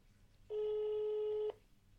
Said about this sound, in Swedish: Jag gör ett nytt försök. Det ringer. Det ringer.